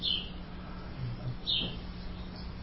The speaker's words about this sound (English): I can't help but listen to the birds. Healthy sound.